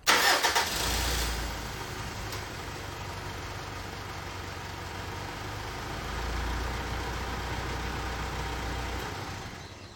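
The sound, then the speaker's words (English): A truck engine cranks and turns over with a loud burst, then settles into a steady, rumbling low idle that continues for several seconds with no talking. “Let's rush to that truck. Acid, get inside of the truck.”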